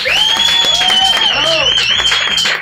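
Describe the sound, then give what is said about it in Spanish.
An audience at the end of the show La Hora Fenomenal claps steadily throughout, thick continuous applause, while a loud, sustained high-pitched whistle rides over it and a few voices cheer and whoop underneath. “Un aplauso para Jaime Figueroa.”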